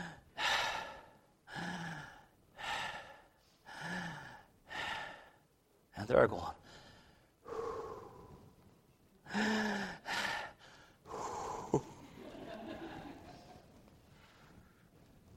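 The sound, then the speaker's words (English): A voice imitates the slow, heavy breathing of Saul falling asleep in a steady rhythm of about eight loud breaths, with a short spoken phrase partway through and a gasping sigh near the end. “No, because the breathing goes at a certain rhythm. And you know that they're about to become unconscious.”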